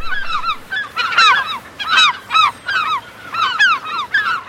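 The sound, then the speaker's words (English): Glaucous-winged gulls call repeatedly, several harsh, rising-and-falling squeals overlapping in quick bursts. The birds sound loud, with no voices present. “The male and female glaucous-winged gulls look alike, so don't even try to separate the gulls from the boys.”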